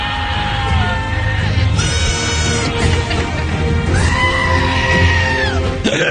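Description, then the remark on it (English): A compilation of goats bleating and screaming in loud, wavering cries, several overlapping calls one after another over a dense, rumbling backdrop, with no one speaking. “It's a supercut of Game of Goats.”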